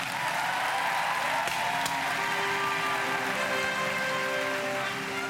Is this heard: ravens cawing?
no